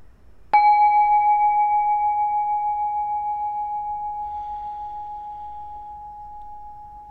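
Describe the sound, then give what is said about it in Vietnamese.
A single meditation bell is struck once during a guided meditation practice and rings out with a clear, steady tone, its shimmering hum slowly fading over several seconds with no voices. “Rồi, thì mời mọi người mình thả lỏng, mình lắng nghe tiếng chuông.”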